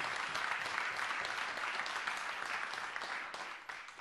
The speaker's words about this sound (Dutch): Ik denk dat we dat wel met een applaus mogen bekrachtigen.